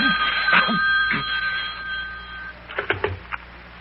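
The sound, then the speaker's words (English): A telephone bell rings with a steady, shrill metallic trill for about two seconds, then cuts off, followed by a few short knocks and clatters. “Wait a minute while I answer the phone.”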